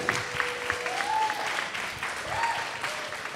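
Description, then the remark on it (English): An audience claps steadily for a few seconds for author and DJ Denise Benson, a dense wash of overlapping hand claps at an even, moderate loudness, with a faint whistle rising briefly above it twice. “How about a round of applause for Denise Benson?”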